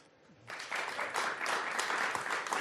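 An audience breaks into applause for an interviewed guest after a quiet half-second, a dense steady clatter of many hands clapping that stays fairly loud through to the end, with no voices.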